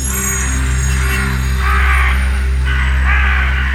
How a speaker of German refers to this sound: Ein riesiger Schwarm schwarzer Krähen nähert sich der Stadt und lässt sich auf den Dächern der Häuser nieder. So viele Krähen hat man hier noch nie gesehen.